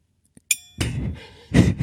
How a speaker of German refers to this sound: Ja, da ist noch so ein Gong dran, so ein kleiner Gong, so ein Zen-Gong. Jetzt Vorsicht. Ich glaube, das ist der kleinste Zen-Gong der Welt.